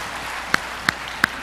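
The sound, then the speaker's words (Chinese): Steady applause from a church audience fills the short moment, a dense wash of clapping with three sharper claps standing out at a quick, even pace. “感谢主，再给他们一个掌声。”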